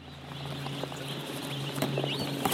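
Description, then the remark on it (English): Scattered, overlapping clucks and chirps from a crowd of white feather meat chickens at an industrial farm in a city just north of Shanghai in eastern China, over a steady mechanical hum, with no one talking. “an industrial farm where they raise chickens that in China are known as white feather meat chickens”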